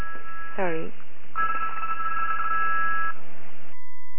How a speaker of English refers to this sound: Sorry, that was the other phone.